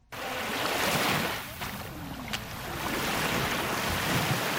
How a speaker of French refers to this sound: Des vagues matinales embrassent la plage du lac Tanganyika à Kajaga, dans la commune de Mutimbuzi, en province de Bujumbura Rural.